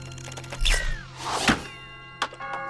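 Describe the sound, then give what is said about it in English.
A soft thwack and a sharp hit as a catapult shot strikes a house's doorbell, which chimes with a sustained ringing tone that fades, followed by another dull knock. No voices. “fires a catapult at the monster house's doorbell.”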